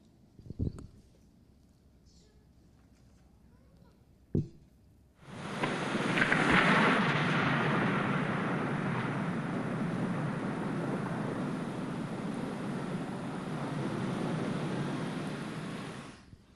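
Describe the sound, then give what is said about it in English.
Two brief thunder claps sound over quiet, then a heavy downpour of rain begins and hisses steadily and loudly, with low thunder rumbling beneath it, until the end. “Did you hear something in that rain? What did you hear? Thunder.”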